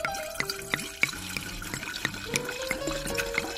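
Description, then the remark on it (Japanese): A drink glugs and splashes steadily into a glass, poured for a toast, the pitch rising as it fills, with a few bottle-neck gurgles and no voices. “ではですね、いつものように乾杯をしたいと思いますので、ちょっとお次させていただきたいと思います。”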